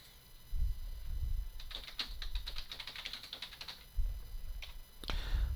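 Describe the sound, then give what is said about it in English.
Rapid, uneven typing on a computer keyboard while writing the word mackerel: a burst of crisp clicking keystrokes with brief pauses, a few isolated taps afterward, and a low rumble underneath. “Why is it I can never write the word mackerel?”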